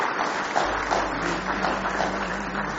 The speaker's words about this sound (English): Somebody say praise the Lord. Somebody say hallelujah. Let's give the Lord one more hand clap of praise tonight.